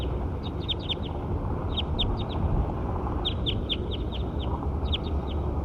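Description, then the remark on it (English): A bird calls in three quick bursts of high, sharp chirps, each a rapid run of four or five notes, heard over a steady low rumbling background noise. “First, I'll get something out of six here. Six. Six.”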